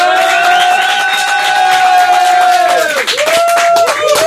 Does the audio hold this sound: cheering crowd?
yes